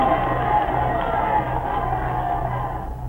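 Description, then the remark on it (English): A large crowd of spectators in a play roars and shouts in a dense, continuous wall of noise, wildly cheering the exploits of their legendary hero Tamburlaine. The noise is loud and sustained throughout, with no breaks or standout voices. “The spectators are wildly cheering the exploits of their legendary hero Tamburlaine, shouting their approval at the top of their lungs.”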